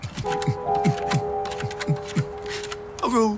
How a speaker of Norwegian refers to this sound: Jeg går bort og skraper på døra.